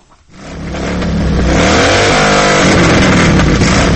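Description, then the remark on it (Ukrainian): A Honda motorcycle, one of 85 on the international Katyn motorcycle rally, starts up and revs hard beside the Consulate General of the Republic of Poland in Kharkiv. Its roar rises quickly and holds loud for several seconds, with no one speaking. “Мотоцикл «Хонда» – один із 85, зупинився поруч із Генеральним консульством Республіки Польща в місті Харкові.”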